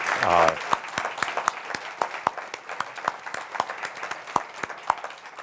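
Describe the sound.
An audience applauds award recipients with scattered, uneven claps, fairly loud and steady, and a short voice is heard at the very start before the clapping takes over.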